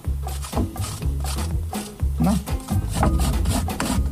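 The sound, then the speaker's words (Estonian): Red cabbage being grated in a studio on a grater attached to a box: a steady run of about eight rasping, scraping strokes, each with a dull thud as the grater is pushed, repeating at a brisk, even rhythm. “riiv on küljes, jällegi saab riivida ja siis riivin natuke punas kapsas siia.”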